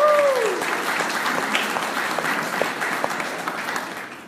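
A crowd applauds steadily for several seconds, a dense wash of many hands clapping at a fairly even level, with a short whistle near the start and no talking over it, celebrating Uganda's first MCC church service.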